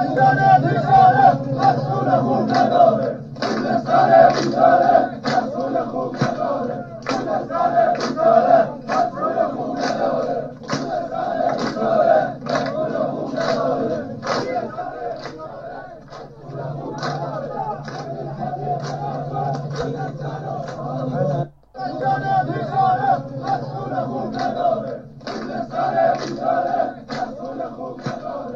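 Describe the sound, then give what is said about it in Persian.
A large crowd of protesters in Khuzestan, greeting the Friday prayer leader, chants in unison, many voices shouting slogans that Khuzestan has no good officials and telling Shariati to leave Khuzestan, in a steady rhythmic cadence that continues loudly throughout, with only a brief dip partway through. “با هم به گوشه ای از این اعتراض گوش میکنیم.”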